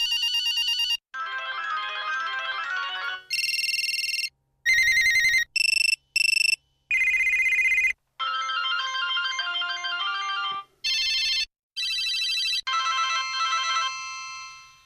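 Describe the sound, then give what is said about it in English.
A rapid sequence of different mobile phone ringtones, each a short burst of bright electronic melody or beeping, cut one after another with brief silences between, loud with no voices. “To those who had these ringtones, they will instantly transport them back in time.”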